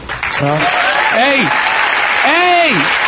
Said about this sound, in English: What you clapping for?